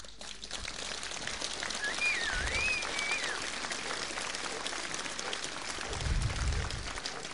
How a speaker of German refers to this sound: Applaus.